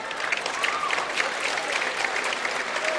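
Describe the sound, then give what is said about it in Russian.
Sustained standing applause from colleagues at the International Congress on Transplantology in Munich in 1958, after Demikhov demonstrated his work. It is a dense, steady wash of many hands clapping at once with no pauses, moderately loud and filling the whole moment. “Коллеги аплодируют стоя.”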